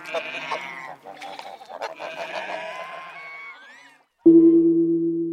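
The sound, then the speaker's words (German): Goats bleat in a small animal enclosure along the play street in Hochstetten, several overlapping wavering calls for about four seconds, then a brief pause before one loud, sustained bleat ends it. “Hier findet man natürlich vollgewachsene Gänse, Hirsche, Dammwild und natürlich auch Ziegen.”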